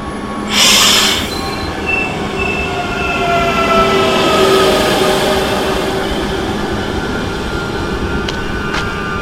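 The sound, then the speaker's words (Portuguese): A CP Regional passenger train, coming from Coimbra and bound for Guarda on the Beira Alta line, pulls into a station platform on track 1, its wheels squealing with long high-pitched tones over a steady rumble of rolling cars, loud, with a brief hiss of air near the start. “O comboio regional CP Regional, procedente de Coimbra e com destino a Guarda, vai dar entrada na linha número 1.”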